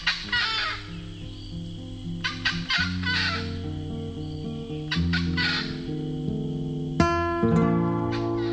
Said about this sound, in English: And high in the canopy of Brazil's Amazon forest, the acacai bird watches and warns. Time is running out.